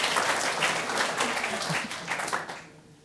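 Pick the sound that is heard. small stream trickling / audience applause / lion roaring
audience applause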